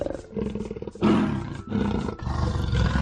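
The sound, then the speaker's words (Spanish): A panther roars loudly, a deep, rasping growl that surges in several heavy pulses over a few seconds, with no voices. “Ahora ya son un montón de vecinos los que la han oído rugir.”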